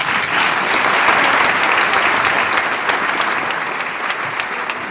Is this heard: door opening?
no